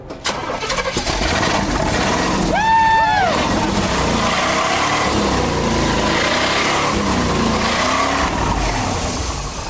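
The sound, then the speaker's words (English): A loud engine cranks over and catches, then roars steadily and revs for several seconds. A brief rising-and-falling whoop cuts through early on. “That's what we want to hear. Yeah. I'm so proud of your engine work”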